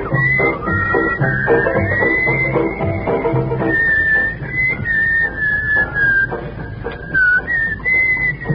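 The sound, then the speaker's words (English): A member of a radio show's studio audience whistles, a sustained, wavering whistle that rises and slides around a high pitch over the busy, murmuring crowd, fairly loud and continuous through the whole stretch. “Someone in our audience, I think, is whistling.”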